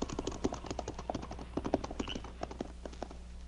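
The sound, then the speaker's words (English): Several ridden horses turn and trot away together, hoofbeats clopping in a quick, steady rhythm, the clatter easing slightly toward the end. No voices are heard. “Turn your horses around and get going.”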